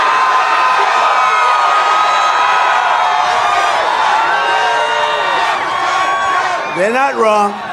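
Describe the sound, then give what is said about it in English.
A large crowd at a Donald Trump rally chants and cheers loudly and continuously, a dense wall of many voices chanting a nickname for Joe Biden, ending with a few sharp rising whoops and shouts. “There's the campus left, River to the Sea crowd's nickname for Joe Biden, appearing at a chant at the Donald Trump rally this weekend.”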